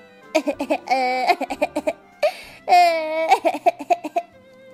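A young boy cries in high-pitched bursts: quick choppy sobs broken by two longer drawn-out wails, with no talking over it.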